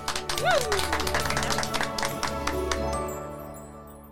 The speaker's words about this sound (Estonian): aplaus